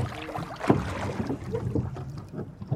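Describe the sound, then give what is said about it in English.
A 22-foot by 5-foot rowing boat, built mainly from a kit, moves across the water as the crew rows together, with splashing and knocking from the oars over a steady wash of wind and water noise. “Right, stand by. Stand by, ready, row. Together. Keep it together.”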